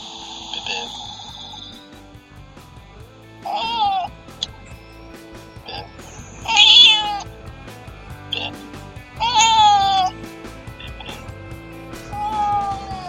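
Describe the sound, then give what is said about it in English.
A cat, DJ Bitbit, meows four or five times, each call drawn out and spaced a few seconds apart, over a steady hum of background music. “that was DJ Bitbit in the house.”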